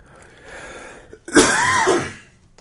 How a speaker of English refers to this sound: One last cough. There's that cough.